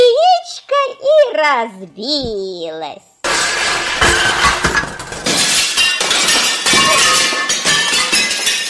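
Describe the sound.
A high child's voice gives way to a loud, sustained crash of a falling egg breaking, a bright shattering clatter lasting several seconds.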